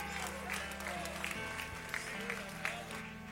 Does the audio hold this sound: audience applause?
yes